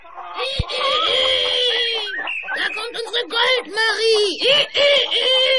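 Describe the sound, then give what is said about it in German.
A voice imitates chickens and a rooster: a drawn-out, wavering crow followed by a quick series of choppy, high clucks, loud with no other sounds around it. “Ihr Elternhaus war kaum in Sicht, da kamen ihr schon die Hühner freudig entgegengeflogen und der Hahn krähte aus vollem Hals.”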